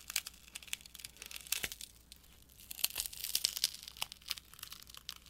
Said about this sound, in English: I'll remove the black tape protecting the inner screen side of the hinge. This reveals a ton of screws, but not a whole lot else at the moment.